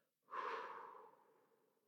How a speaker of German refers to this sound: Und jetzt atmen wir innere Balance und inneren Frieden ein durch die Nase, zählen bis 3, halten kurz an. Also 1, 2, 3 und atmen jetzt alle Krisen und Sorgen aus dem Mund wieder aus.